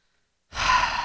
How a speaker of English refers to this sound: What are you breathing heavy for? What's the matter with you?